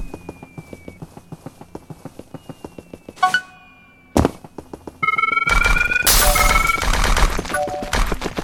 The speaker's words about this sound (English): Bomb storm. Coin. It's a bunch of bombs.